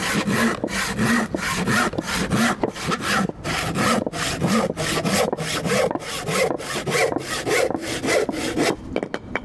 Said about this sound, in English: with hand saws, you don't force it, you let the saw do the work. So let's see how we get on with it. So I'm going to make the first cut using the full length of the blade.